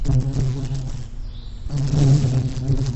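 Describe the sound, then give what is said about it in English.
An adult deer fly buzzes in flight, a steady droning hum with strong low harmonics that briefly thins out midway, then swells back to full loudness. “Deer flies, which annoy and bite during their flying adult stage, inhabit wetlands, ponds, marshes, or streams in their immature stages.”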